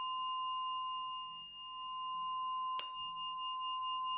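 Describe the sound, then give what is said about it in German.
A meditation stick bell is rung to begin a meditation, with a long, pure sustained tone, struck once more partway through with a bright metallic attack, its clear overtones lingering steadily without any voices. “Und dann nimmt man die Stabglocke und läutet die Meditation ein.”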